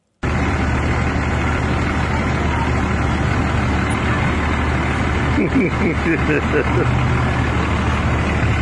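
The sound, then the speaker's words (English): A Cummins turbo diesel pickup truck engine with a Washington plate clatters loudly and steadily for the whole stretch, with indistinct voices faintly mixed in partway through. “And the driver of the clattering diesel pickup truck extends his middle finger at the guy shooting the video.”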